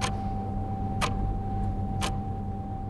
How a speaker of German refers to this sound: Aber ich habe mir Mühe gegeben, möglichst nervige und möglichst alltägliche Störgeräusche aufzuzeichnen, um damit das Audiostück so ein bisschen zu spicken. Hier hören wir zum Beispiel eine Uhr.